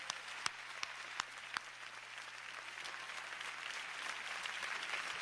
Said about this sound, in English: To the women in this room that have had one husband, love God, one set of children, did it God's way, can we at least clap for them right quick?